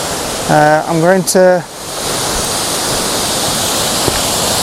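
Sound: waterfall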